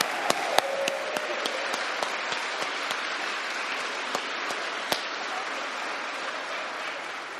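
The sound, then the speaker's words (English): A crowd applauds children after their performance, steady clapping for several seconds, a dense wash with a few sharp, louder claps standing out near the start before it evens out. “Thank you all for coming out today, and I think these children deserve one more round of applause.”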